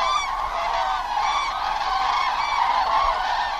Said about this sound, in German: Nach den vielen tausend Gänsen guckt schon kaum noch jemand.